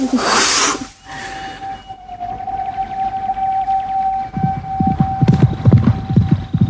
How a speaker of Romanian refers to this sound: Trenul, auzi?